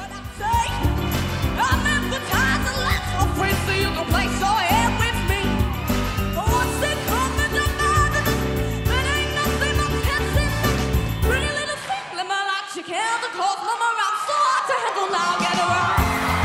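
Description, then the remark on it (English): A talent show audience cheers loudly and continuously, a dense roar of applause, screams and rising whoops, as all four judges stand and applaud; the low rumble drops out briefly near the end while shrill cheering carries on. “Listen to the audience.”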